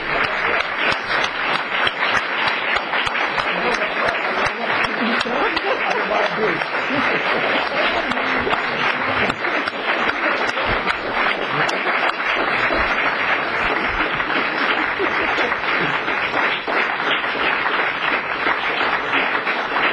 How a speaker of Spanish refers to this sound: Mientras están parados y están aplaudiendo, quiero terminar con este evento.